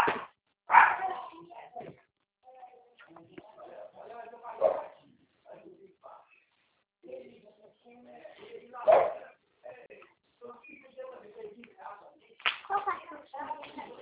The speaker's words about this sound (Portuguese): Ah, que cachorrinho é de Maria.